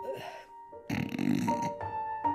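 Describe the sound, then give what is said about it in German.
A voice imitates the loud snoring of a woman slumped in an armchair: a short throaty rasp, then a long, heavy, rattling snort drawn out and ending in a low hum. “Faye sackte im Sessel zusammen und schnarchte laut.”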